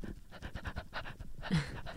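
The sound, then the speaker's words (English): A person pants rapidly and rhythmically, mimicking a dog, with quick breathy huffs, ending in a louder, rougher exhale. “Oh, wow. You sound like a dog.”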